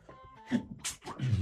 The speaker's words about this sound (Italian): E ogni volta che esprimo qualche concetto forte arriva sempre lo starnuto.